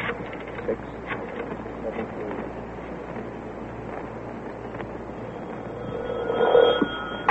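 telephone ringing

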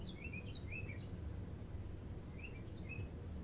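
birds chirping outside

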